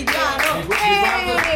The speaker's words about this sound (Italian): Ma poi tra l'altro ci sono i ragazzi della quotidiana. Il quotidiano! Ragazzi, quotidiano, un applauso.